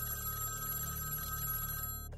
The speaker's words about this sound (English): Soon after she leaves the apartment, at 9:20 p.m., the phone rings.